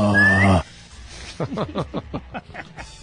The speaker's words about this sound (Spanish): No puedo ni chiflar, pero lo intento.